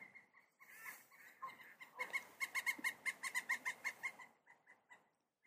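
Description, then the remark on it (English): A pileated woodpecker flies in and lands in the tree directly overhead, letting out a loud, rapid series of about a dozen ringing calls, steady in rhythm, after a few softer scattered sounds; no one speaks. “Well, a pileated woodpecker just flew in and landed in the tree that's directly above me. I hope you were able to hear that.”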